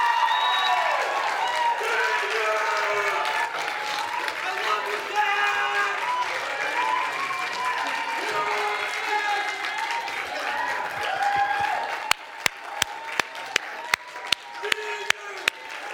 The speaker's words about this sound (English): On the count of three, I want every dad to come and get a bucket. And I want the rest of us to just scream and holler and applaud. Ready? One, two, three. Go! Go!